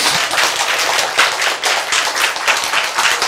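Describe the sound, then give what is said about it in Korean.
A lecture audience applauds steadily after being told cancer cells can return to normal, a dense, bright wash of many hands clapping at once with no pauses, loud and continuous throughout, with no voices heard over it. “박수.”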